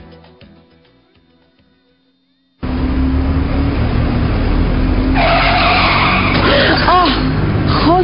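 After a quiet lead-in, a loud burst of roaring engine noise erupts, followed by high, sliding tire squeals as a car skids hard in a crash, the screeching rising and falling over a steady rumble.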